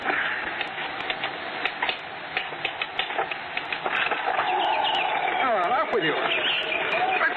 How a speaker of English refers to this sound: I've already seen to it. It's some bird trying to get in. Send them away. I can't sleep with that noise.